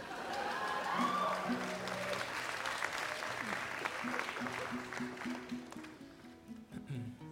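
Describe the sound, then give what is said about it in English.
A large audience claps steadily for a musician as he is about to take the stage, a dense rush of applause holding at a loud level for the whole stretch, with scattered cheers and murmuring voices mixed through it and a few tonal hums underneath. “Good luck, …, with your set after that applause.”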